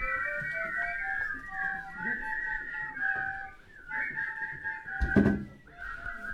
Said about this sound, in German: Tja, wir sind immer noch in der Chemievorführung. Jetzt ist Pfeifen angesagt.